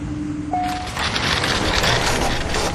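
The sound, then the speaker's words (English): A low hum and a brief electronic whine give way to a dense, continuous clatter of grinding gears and sliding bolts as the heavy door of a polycarbonate maximum security cell unlocks, its lock made of a series of gears, deadbolts, chains and magnets. “The polycarbonate cell had one door and was locked by a series of gears, deadbolts, chains, and magnets.”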